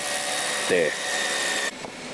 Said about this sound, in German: Zum Beispiel Bohren. Aber das macht ja gar nicht der Wind. Das macht ja der Mann mit dem lustigen Bohrer da links.